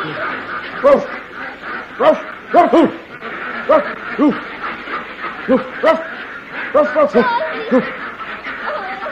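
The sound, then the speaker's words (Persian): A man kneeling on the ground produces a series of short, punchy bark-like yelps in an irregular rhythm, imitating a dog to find a duck that lays golden eggs, with other voices and light laughter around him. “یه مرد بالغ با دکترای حقوق باید زانو بزنه رو زمین مثل سگ پارس کنه تا اردکی ها که تخم طلایی میذاره پیدا کنه، اونم تخم طلای ناب.”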